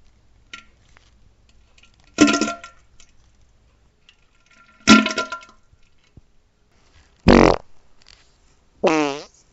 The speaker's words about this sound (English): And here is some pooping and farting just for you.